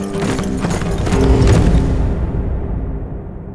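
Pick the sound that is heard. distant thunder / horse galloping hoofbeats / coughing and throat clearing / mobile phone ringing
horse galloping hoofbeats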